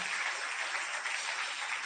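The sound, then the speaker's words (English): A standing church audience claps steadily after a prayer, a dense, continuous wash of many hands applauding at an even, fairly loud level with no voices standing out. “As we are all still standing, clap your hands.”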